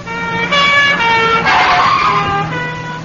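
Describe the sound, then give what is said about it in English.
A loud, wailing recorded police siren blares continuously from a tape recording in the base of an anti-theft handbag, its pitch sliding up and down in layered tones with a rough burst in the middle, and no one speaks. “If the thief doesn't stop and surrender, a tape recording in the base of the handbag will play recordings of police sirens.”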